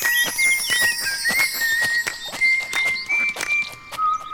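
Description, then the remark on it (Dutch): A bright, cheerful tune is whistled in a steady run of high notes that step up and down in pitch, over regular crunchy footsteps keeping a walking rhythm throughout, as someone walks through a park on a nice day. “Zeppie loopt door het park en fluit een vrolijk deuntje.”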